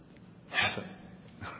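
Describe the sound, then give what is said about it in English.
A person breathes out a single soft, airy "h" sound, the letter H as it is breathed in speech, a short breathy exhale followed by a fainter breath at the end. “We breathe the letter H when we speak.”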